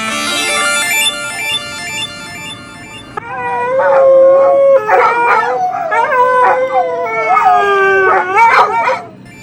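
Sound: dogs howling together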